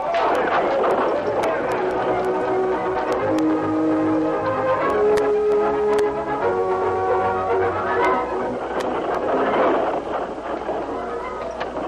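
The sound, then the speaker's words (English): A horse-drawn stagecoach gets under way, rolling out of El Paso: brisk hoofbeats clatter in a steady rhythm over a continuous rumble of rolling wheels and rattling harness, loud and busy throughout. “Dan and the kid were the only passengers as the stage rolled out of El Paso.”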